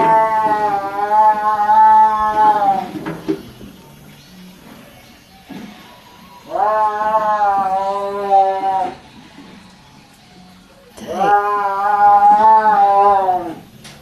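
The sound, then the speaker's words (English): A caged tiger under a tent yowls three times, each cry a long, loud, wavering moan lasting a couple of seconds, with short quiet gaps between them and no talking. “Have you ever heard a tiger yowl?”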